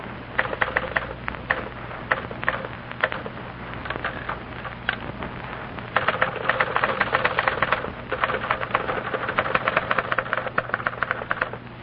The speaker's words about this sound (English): And now for a little demonstration of one striking fact about our product. Listen to these two girls, each typing a letter.